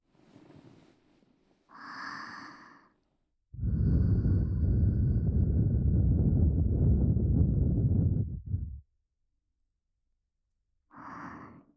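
A long, steady breath is blown into the listener's ear as a sudden prank for about five seconds, roaring, with softer breaths before and after it. No one speaks.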